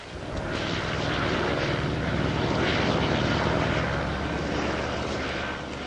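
Tourist helicopters hover overhead above a volcanic island with active lava, droning steadily. Their rotors produce a rapid low thumping beneath a broad engine roar that holds fairly loud for the whole stretch, with no voices.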